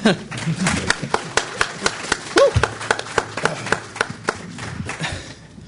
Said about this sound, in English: I'm going to try to make the introductions brief, but please, you know, let's all applaud very, very loudly and right on.